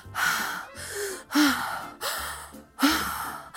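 Heavy, deep breaths taken in a steady rhythm during a breathing exercise, several loud inhales and exhales with a rough, airy rush, alternating with brief pauses, no talking.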